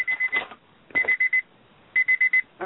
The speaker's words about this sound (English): this is going on there, I don't know what that is. Anyone know what that beeping is?